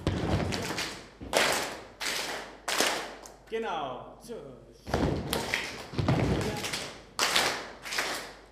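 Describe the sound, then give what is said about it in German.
Body percussion exercise: a steady, rhythmic run of loud, flat slaps on the thigh, done to wake oneself up, repeating roughly every half second to second, pausing briefly while a voice says a couple of words. “Oder einfach nur die Body Percussion. Und wem das zu tief ist, der kann sich auch einfach auf den Oberschenkel einmal wachklopfen.”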